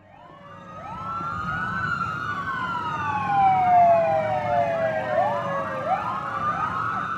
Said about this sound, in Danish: Mens betjentene i fuld udrykning ilede mod gerningsstedet